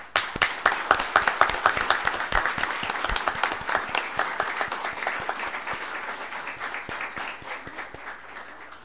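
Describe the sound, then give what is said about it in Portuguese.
An audience bursts into applause for a group of girls in Arroio do Meio, many hands clapping in a dense, crackling wash that starts strong and slowly thins out over several seconds, with no voices over it. “Quero pedir uma salva de palmas para essas meninas.”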